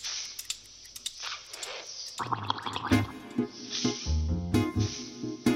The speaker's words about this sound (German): Ich weiß nicht, was die sich so erzählen unter Wasser. Nur ein Blub. Das haben die Fische anscheinend irgendwie nicht drauf. Ha, wir schauen nochmal. Wir überlassen erstmal das Blubbern der Band